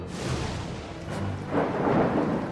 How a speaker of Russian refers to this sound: Гром — это топот его копыт.